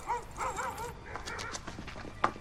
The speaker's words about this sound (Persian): مالایا، اون فقط یه سگه.